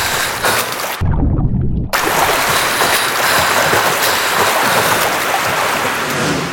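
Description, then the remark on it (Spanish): Loud, steady rushing water of a river current roars without a break, a dense churning wash of sound, with a brief deep rumbling buffet early on, as a person is swept along in the icy water. “tomé una bocanada profunda de aire mientras sentía que me movía con mucha virulencia a merced de la corriente.”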